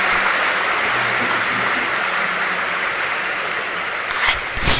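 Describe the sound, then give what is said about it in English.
Many hands clap together in a steady, dense wash of applause that holds at an even loudness for several seconds, with no voices over it. “Let me clap now again.”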